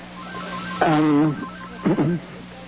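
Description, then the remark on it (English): A telephone rings in two short warbling electronic bursts separated by a brief pause, fairly loud above a steady low background hum. “I'm sorry you're getting this ringing through.”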